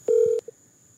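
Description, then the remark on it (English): A single short, steady electronic ringing tone of an outgoing phone call sounds clearly for about a third of a second, then a faint blip and quiet. “He's looking at the phone right now, waiting for it to stop ringing.”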